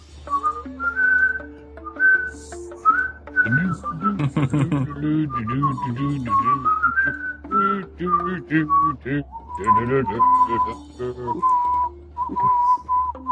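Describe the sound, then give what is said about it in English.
Someone whistles a stepping, melodic tune for several seconds, the clear thin notes carrying throughout, with a lower voice-like murmur or background sound mixed in through the middle. “Does whistling count as issues?”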